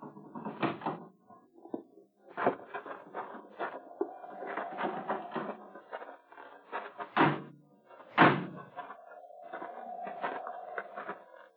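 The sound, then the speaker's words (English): A door creaks open with a drawn-out squeaky hinge, followed by clunking knocks and a sharp thud as it shuts, then another long creak, with no talking. “Just do like I say. Open the door.”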